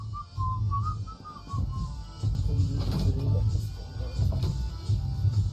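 A person whistles a short, wavering melody for about two seconds over a steady low rumble, then the tune gives way to muffled, indistinct vocal sounds.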